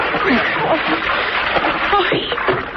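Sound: person splashing into water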